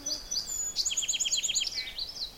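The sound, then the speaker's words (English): A second song sparrow, competing with another, sings a quick, bright phrase: a few sharp introductory notes followed by a rapid series of descending buzzy trills, clear against faint outdoor background noise. “And another song sparrow.”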